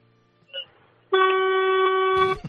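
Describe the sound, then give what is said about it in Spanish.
The horn of a Datsun 530 truck honks in one loud, steady blast lasting just over a second, with a short faint chirp before it and a brief clatter as it cuts off. “Pues mira, llevo un Datsun 530. Uh-huh. Que es el, además, el único modelo que no tiene claxon. Sí que tiene claxon, sí.”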